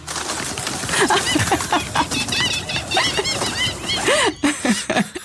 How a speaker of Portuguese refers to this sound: Olha, super relaxante, numa sala cheia de pombos e gaivotas. Quando alguém bate uma palma.